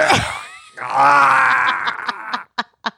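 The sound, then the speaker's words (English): A voice imitates a strained, effortful groan of someone holding her breath and pushing, a long held vocal push with a tight, pressed tone, ending in a few short puffs of breath; fairly loud, with no words. “She's holding her breath and. You know, she's going.”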